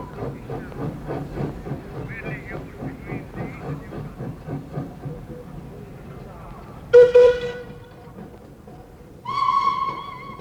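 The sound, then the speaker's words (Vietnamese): After several seconds of low, steady rumble and murmuring voices at the Lyon railway station, a train whistle sounds two loud blasts: a short sharp one, then a longer sustained toot near the end. “Mười lăm phút sau đó, tiếng hú vang của con tàu lửa khoái ác đã vội vàng cướp đi đứa con yêu quý nhất đời của ông.”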